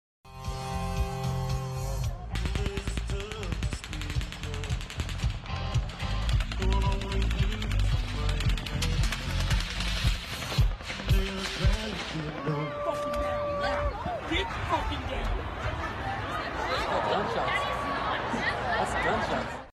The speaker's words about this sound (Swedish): Och det ni då hör är början av den första rundan av skott som då avlossas mot det här festivalområdet.